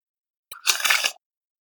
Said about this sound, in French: Attends, je fais le bruit du papier.